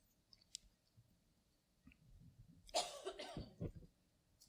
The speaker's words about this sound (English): I have a cold, so I'm sorry for the sneezing and coughing ahead of time.